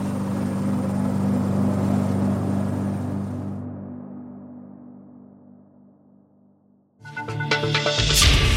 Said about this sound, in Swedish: Men helikoptern måste tillbaka till land för att tanka innan de kan fortsätta sökandet.